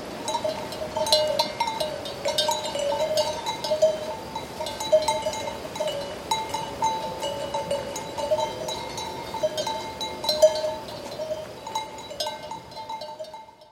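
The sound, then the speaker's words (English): A flock of sheep moving about with many bells clanking irregularly and continuously, a dense jangling texture with occasional bleats, no voices, steady throughout. “Sheep and Bells, Animal Flock, 138424.wave.”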